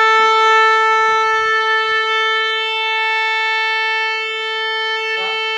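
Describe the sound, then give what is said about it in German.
A pipe organ's trumpet stop sounds one loud, unwavering note, bright and brassy with rich overtones, held steadily at a single mid pitch for several seconds, with a few faint knocks early on, as it is tuned with the Octave 4 stop on the 4,300-pipe, 66-stop organ in the wall of the Weisser Saal. “Trompete, der Ton, Trompete und Oktave 4.”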